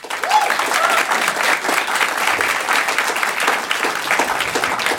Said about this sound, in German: Euer Applaus für diese Frage.